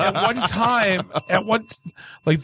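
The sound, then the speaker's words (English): Voices talk animatedly, then a small bell rings briefly near the end, its bright tone ringing out in a short gap before talking resumes. “Where's the bell? She has it.”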